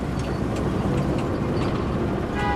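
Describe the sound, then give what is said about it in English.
A steady, low rumble of a van cruising along a highway under dreary skies, passing trees and institutional buildings, in the film The Trader (Sovdagari). Engine and road noise drone continuously at an even level, with no voices. “The view fades up on a van heading down a highway under dreary skies, passing numerous trees and nondescript institutional buildings.”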